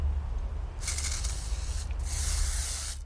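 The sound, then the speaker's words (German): Two bursts of spray paint hissing from a can as a woman sprays graffiti lettering, a long spray followed by a brief pause and a second sustained spray, steady over a low rumbling background. “Unglaublich, was sie mit ihren Sprühdosen zaubert.”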